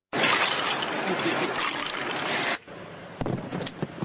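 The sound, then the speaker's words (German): Firefighters knock icicles from rain gutters after heavy snowfall left 30 to 50 cm of snow; the ice crashes and shatters in a loud, sustained burst of icy clatter, followed by a quieter pause and then a few more scattered cracks and tinkling fragments. “Gefährliche Eiszapfen an den Regenrinnen und Berge von Schnee auf den Dächern müssen beseitigt werden.”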